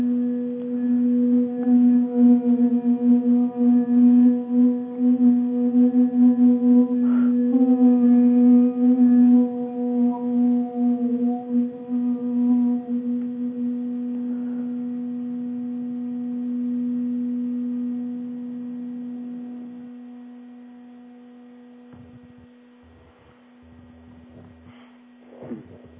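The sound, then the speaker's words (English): A crystal singing bowl, tuned to the key of B, rings with a steady, pure sustained tone and faint overtones, swelling loudly then slowly fading over about twenty seconds before a few soft bumps. “Now, crystal bowls, I've got one here. This bowl happens to be a bee bowl. I'll play a little bit of it.”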